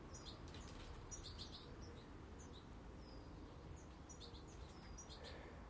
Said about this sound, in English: Beautiful morning, and the birds are all chattering away.